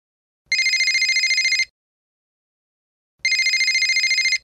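A telephone rings twice before a call is answered, each burst a rapid trilling bell lasting about a second, separated by a pause of silence. Clear, with no voices.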